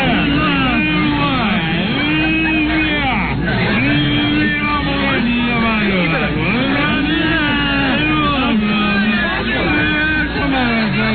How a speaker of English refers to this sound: How about drunk men at a party? Okay. Here we go. We now take you inside the WJFK sales meeting.